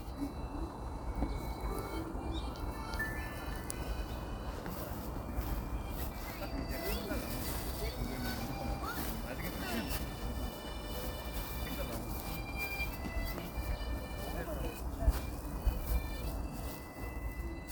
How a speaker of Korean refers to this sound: 두루의 어느 신사분의 하모니카 연주 소리 들으면서 마무리하겠습니다.